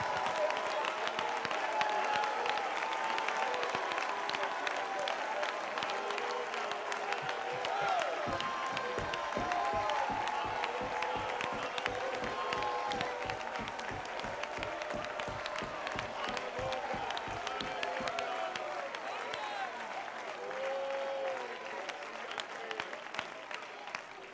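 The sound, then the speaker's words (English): An audience at a church service applauds steadily for over twenty seconds after being asked to clap their hands and shout unto the Lord, a dense, loud wash of clapping with scattered voices and cheers rising through it, the clapping briefly sharpening into more distinct claps midway. “You may go down clapping, but one more time, if you've got the strength, if you've got a voice, would you clap your hands, all ye people, and would you shout unto the Lord with a voice of triumph, because there is”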